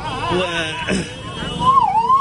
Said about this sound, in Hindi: ये देखिए fire brigade एक और आ चुकी है जिसकी आवाज़ आप बराबर सुन रहे हैं। फायर ब्रिगेड की गाड़ी मौके पर, एक और तीसरी गाड़ी है ये फायर ब्रिगेड की जो कि मौके पर मौजूद।